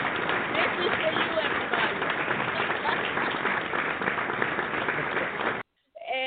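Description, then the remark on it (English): A crowd applauds steadily for about five and a half seconds, a dense, even wash of clapping that cuts off abruptly, followed by a brief faint tail. “Because of you, that's why we gave you applause.”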